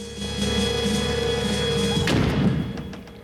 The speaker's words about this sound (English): Ace slams the door behind him and moves cautiously through a dimly lit chamber housing a large fish tank.